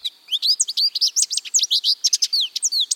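american goldfinch song

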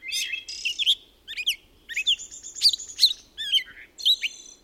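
birds chirping and singing

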